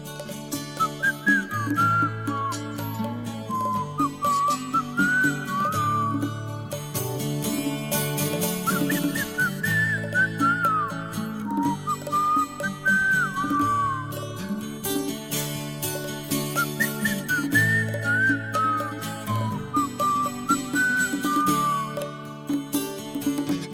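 A clear, bright whistled melody with sliding notes carries a tune over a steady musical backing, close and fairly loud throughout, with no voices talking.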